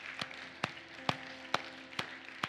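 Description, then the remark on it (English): Congregation applause for the Lord during a church service, heard as a steady rhythm of sharp claps about twice per second over a soft, continuous wash of crowd clapping noise. No one speaks. “So let's before we sing, give the Lord a round of applause for all that he's done for us.”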